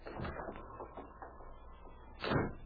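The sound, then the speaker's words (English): A door slams shut behind two crooks with a loud, heavy thud near the end, after a few softer knocking and rattling sounds. No one speaks. “As the door slammed behind the two crooks, Lola and Jerry looked at each other with undisguised alarm.”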